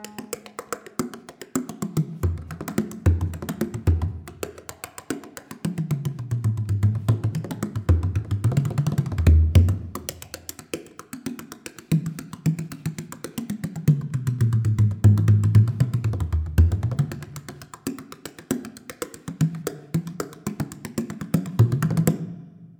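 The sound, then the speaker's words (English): A hand drum is struck in rapid, steady strokes for about twenty seconds, its deep low tone swooping up and down in pitch as the player's hand moves in and out and up and down, changing the tension on the drum head, with the right hand striking. No voices. “And the way you get the different tones is by moving your hand in and out and up and down and changing the tension on the head of the drum.”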